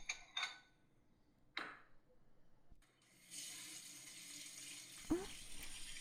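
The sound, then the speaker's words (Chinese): A few sharp clinks of dishes, then a kitchen tap turns on and water runs in a steady hiss into the sink as someone washes dishes, with another brief clatter partway through. “我洗碗呢，你凑过来干什么？”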